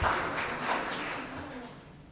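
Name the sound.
audience applause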